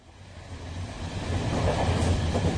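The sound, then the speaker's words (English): The steady rumble of a moving passenger train to Newcastle, heard from inside a carriage, with low droning and faint rhythmic clatter building slightly louder over a few seconds. No one speaks. “So let's listen now to what happened on the train to Newcastle.”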